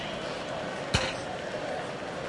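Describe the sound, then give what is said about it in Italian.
A ball strikes a pitchside microphone during an Eintracht Frankfurt Europa League football match, early in extra time, with one sudden, loud thump, a sharp knock with a deep low boom that cuts through a steady wash of background noise and fades almost at once. “Palla che sbatte contro un microfono, evidentemente, dal rumore che abbiamo sentito a bordo campo.”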